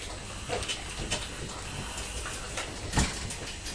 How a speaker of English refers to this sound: His ironing board squeaks, though, doesn't it? The bus! Can you hear it squeaky, squeaky?